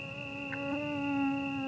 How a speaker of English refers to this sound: You'd be hard-pressed to find someone who welcomes the sound of a mosquito drawing near, but, annoyance aside, they're the vectors of all manner of maladies that plague human populations worldwide.